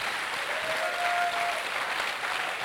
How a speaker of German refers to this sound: Вы можете поаплодировать вашим пасторам. Könnt euren Pastoren einen Applaus geben.